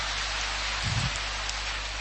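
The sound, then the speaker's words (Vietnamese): A crowd applauds steadily to thank someone for their answer, producing a dense, even wash of clapping that holds at one level throughout, with a brief low thump about midway and no voices. “Cho một tràng pháo tay để cảm ơn câu trả lời.”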